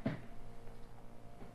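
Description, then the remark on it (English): A locked door is rattled: one sharp wooden clunk at the start, followed by a couple of faint knocks over a low, steady background hum. No one speaks. “The door. The door won't open. I can't get out. I'm locked in.”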